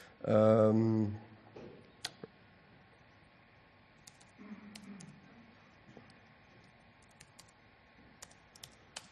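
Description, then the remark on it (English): A short burst of voice at the start, then scattered, irregular clicks of typing a command on a notebook laptop keyboard, fairly quiet, with soft background noise between the keystrokes. “I have to run a command on my notebook.”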